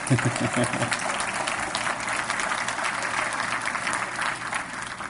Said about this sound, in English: You can give the Lord a big hand clap for that one.